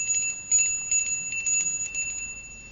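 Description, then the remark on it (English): A bell rings continuously for a few seconds, a bright, steady metallic ringing with rapid pulsing bursts, clear, with no voices. “Because you asked to ring this bell.”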